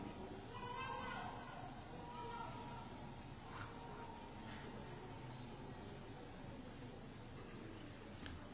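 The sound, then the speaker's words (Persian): A young child's voice babbles and cries out intermittently during a crowded Quran lecture gathering, with a steady wash of background murmur and rustling around it. “من چند لحظه سکوت میکنم، این دوسته تو بچه رو برداریم ببریم بیرون.”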